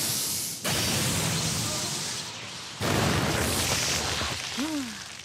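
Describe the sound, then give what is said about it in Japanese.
Two heavy, crackling electric bear punch attack impacts burst in loud, aimed at an iron golem, each followed by a sustained roar of noise, with a short swooping tone near the end. “電撃クマパンチ。”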